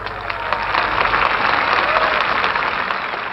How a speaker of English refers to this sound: More applause.